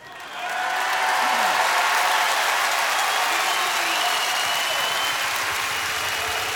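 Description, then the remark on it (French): A large audience breaks into sustained applause, a dense wash of clapping that swells quickly after a brief quiet start and holds steady and loud throughout, with no voices rising above it. “Oh, il n'y a ni à applaudir ni à siffler, croyez-moi.”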